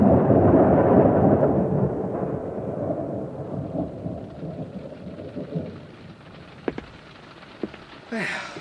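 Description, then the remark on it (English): A long, deep rumble of thunder rolls and slowly fades, followed by scattered sharp drips and the hiss of rain beginning to fall near the end. “You got him in and out before the rain.”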